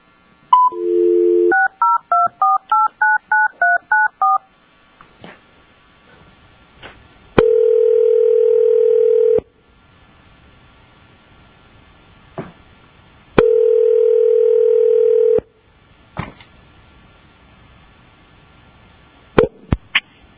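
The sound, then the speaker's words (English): A telephone dial tone, then a quick run of about a dozen touch-tone beeps as a number is dialed to reach a person's attorney during a board hearing, followed by two long ringback tones separated by silence and faint clicks. No one speaks. “And I believe we're getting your attorney on the phone.”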